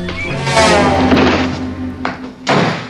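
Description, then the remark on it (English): A hefty punch lands with a loud, heavy thud and a rumbling crash as a man opening his door is knocked down, followed by two shorter, sharp impacts. No one speaks. “As Fleming opens his door, Jim knocks him down with a hefty punch.”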